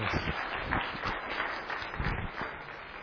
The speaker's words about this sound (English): We are honored to have you, and we would love to give you a round of applause as you begin to preach for us.